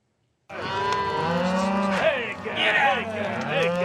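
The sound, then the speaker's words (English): Several cattle moo and low at once, overlapping calls rising and falling continuously, loud, as a herd bellows together outdoors with no voices, on the Green River Drift cattle drive in Wyoming, moving hundreds of cows, mostly mothers with new calves, toward high summer pastures. “As we first reported last fall, this throwback to the Old West is called the Green River Drift, and it's the longest-running cattle drive left in America.”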